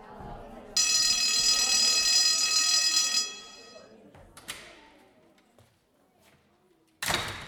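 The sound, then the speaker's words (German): A loud electric school bell rings steadily for about two and a half seconds in a classroom as pupils sit waiting in their seats, then cuts off, followed by a few sharp knocks and clatters over faint background murmuring. “Alle Schülerinnen und Schüler setzten sich augenblicklich auf ihre Plätze und warteten auf die Begrüßung und das Klingeln.”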